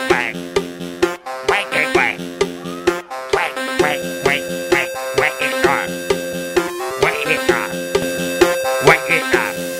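A voice imitates a duck's quacking in short repeated pairs, sung in rhythm over bright, bouncy music with a steady beat and chiming tones.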